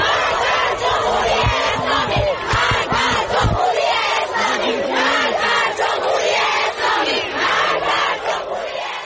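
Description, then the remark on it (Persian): A large crowd of protesters at the University of Tehran chants slogans against the Islamic Republic together in loud, rhythmic bursts, with shouting voices overlapping throughout and a dense roar of many people filling the whole stretch. “تصاویر منتشر شده از دانشگاه تهران و از زهرا نیز نشان می‌دهد که همزمان با شعارهایی که اصل نظام جمهوری اسلامی را هدف گرفته بود، پرچم رسمی کشور به آتش کشیده شد.”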